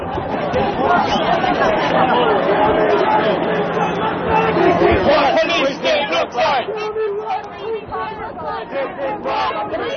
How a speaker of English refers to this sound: Okay, and that's some of the sound that we recorded at the conclusion of one of the many protests that happened during the Republican convention last week